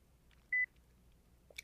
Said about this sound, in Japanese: ピッという音がしまして電源が入りました。